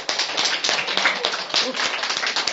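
A group of people clap their hands together, a dense, steady patter of many overlapping claps that keeps up for a couple of seconds at a fairly loud level.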